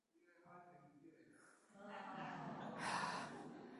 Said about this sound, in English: Yawn. You've ruined my point now.